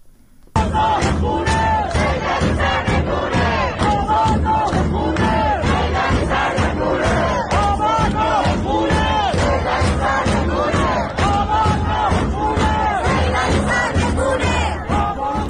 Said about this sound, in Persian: الان صدای یکی از این اعتراضها رو در منطقه صادقیه تهران میشنویم.